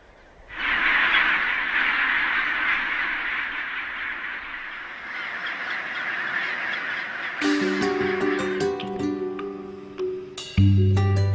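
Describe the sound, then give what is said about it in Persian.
A colony of about 200,000 penguins on an island off the Antarctic Peninsula calls in a dense, continuous chorus of harsh squawking and braying, loud and overlapping, with steady tonal notes rising in over the final few seconds. “2 انسان و 200,000 پنگوئن.”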